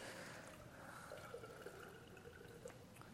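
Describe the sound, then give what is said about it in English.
A steady stream of water pours into a container, a continuous gurgling trickle with faint rising tones as it fills, with no talking. “There's still some more water in there. Go ahead. You're not really filling it up that fast, though, but it's okay.”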